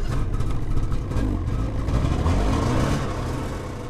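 A snowmobile carrying a group of science students drones steadily at a loud, constant level over the ice of the Chukchi Sea, its low mechanical rumble joined by a broad rushing noise as it travels without pause.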